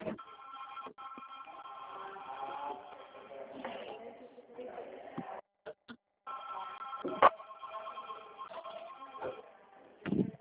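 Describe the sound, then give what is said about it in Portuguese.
A telephone rings with a steady, buzzy tone that keeps going, while people talk over it. The sound is thin and tinny, and it cuts out briefly a few times. “Deixa eu desligar o telefone aqui.”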